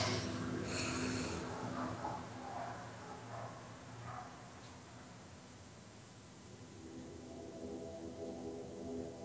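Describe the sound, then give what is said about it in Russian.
A deep, breathy inhale followed by a long, slow exhale, fairly soft, with a low steady hum underneath and no talking. “Глубокий вдох, выдох и немного задержим дыхание.”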